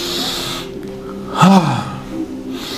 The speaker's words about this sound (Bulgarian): И влез в това дишане, което чуваш сега. И го остави да те поведе на едно пътуване отвъд времето, отвъд разбирането за аз съм тук или там, или някъде, дишай, бастрика.